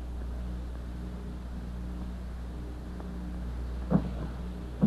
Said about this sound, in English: Oh, my lovely boat sinking beneath my feet.